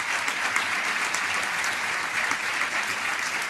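Sustained applause from a sizable audience at a doctoral ceremony for new doctors of a molecular and cellular biology doctoral programme, steady and dense clapping throughout with no pauses, fairly loud, filling the whole moment.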